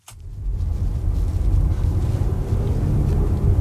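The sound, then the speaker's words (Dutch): A Polestar One car being test driven, its engine rumbling low and steady, a continuous deep drone from the combustion engine with a faint higher tram-like whine layered on top, no voices. “Je hoort een beetje dat tramgeluid, maar toch ook een verbrandingsmotor.”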